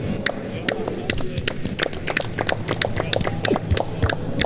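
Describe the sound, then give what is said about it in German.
Planned opening applause for a show, played from a soundboard: applause from a small group, a busy patter of sharp, overlapping hand claps at an uneven rhythm, steady for several seconds over a low rumbling murmur underneath. “Oder wie unser Einstiegsapplaus, der war eigentlich geplant, das müssen wir den Leuten jetzt mal vorführen, eigentlich war ja geplant, dass diese Sendung beginnt mit folgendem.”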